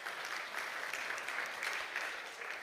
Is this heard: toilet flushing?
no